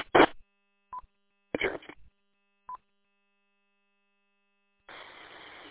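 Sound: telephone call tones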